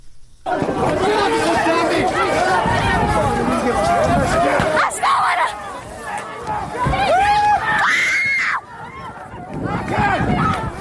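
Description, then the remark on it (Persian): A large crowd of protesting students shouts and screams continuously as tear gas is fired at them inside the campus of the University of Kurdistan, a loud, chaotic clamour with overlapping voices rising into shrill cries around the middle and again near the end. “همچنین در تصاویر منتشر شده در شبکه‌های اجتماعی، دانشگاه کردستان هم در داخل محوطه این دانشگاه به سوی دانشجویان معترض گاز اشکاور شلیک می‌شود.”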